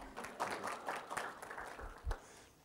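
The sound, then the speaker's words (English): A brief round of audience applause for the speaker's wife, a dense patter of many hands clapping at once for a couple of seconds, fairly soft, with a dull thump near the end as it fades. “Give my wife a round of applause, please.”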